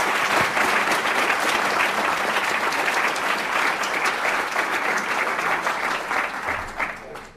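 A large audience claps steadily for several seconds to welcome a speaker to the podium, a dense, continuous wash of applause that holds strong before tapering slightly at the end.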